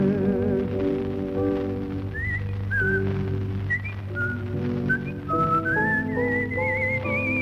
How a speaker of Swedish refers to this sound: Jag försöker själva och vissla så där fint på slut.